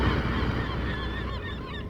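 A noisy colony of gulls and cormorants moving around, some flying in and some flying out, with overlapping squawks and cries forming a loud, continuous din over a steady low rumble, with lobster boats adding to the noise. No one speaks.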